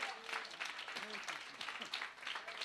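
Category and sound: crowd, audience clapping hands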